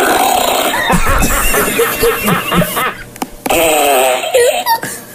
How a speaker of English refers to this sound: Do you like the fart board? Mm-hmm. Yeah? What's your favorite fart sound?